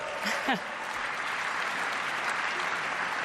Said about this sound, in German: Je jünger, desto größer der Applaus.